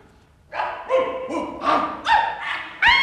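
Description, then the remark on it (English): A quick series of about six barks in succession from a line of long-haired sheepdogs, 40 in all, each bark from a slightly different voice as the dogs number off one after another from the right, fairly loud with no talking. “40 long-haired sheepdogs. Which one is he on? I'll soon find him in a military way. Dogs from the right number.”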